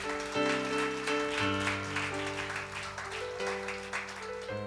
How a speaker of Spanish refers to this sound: Se da el aplauso, dáselo bueno al Señor.